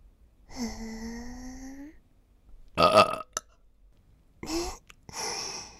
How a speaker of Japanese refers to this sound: 急にゲップされてびっくりした？それとも急に耳元でゲップされて興奮しちゃったかな？